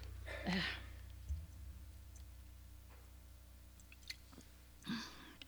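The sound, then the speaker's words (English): Quiet sounds of someone drinking water: a soft gulp near the start and another near the end, with faint wet clicks and mouth noises in between, no talking. “I have to have a drink here. I have to have water.”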